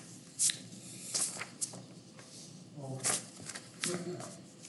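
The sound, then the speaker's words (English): Irregular clusters of sharp keyboard clicks from someone typing during a council meeting, moderately loud, with short pauses between bursts and faint voices murmuring in the background. “are you typing?”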